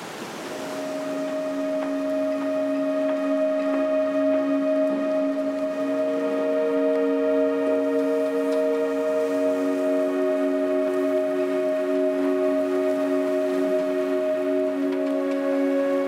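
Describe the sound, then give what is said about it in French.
Wind whistles steadily through the masts and rigging of sailboats moored in the Vieux-Port harbour at the heart of La Rochelle, several overlapping tones humming and shifting in pitch for the whole stretch, fairly loud and unbroken, with no voices. “Si on écoute bien quand il y a du vent, on a le bruit du vent dans les mâts.”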